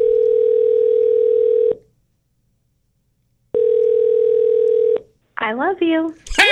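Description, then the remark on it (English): A steady, low-pitched telephone tone sounds twice in long even bursts separated by a pause of silence as a radio show calls a listener's phone, then a voice answers at the end. “And at a random time, we will call someone and you must answer your phone with three words.”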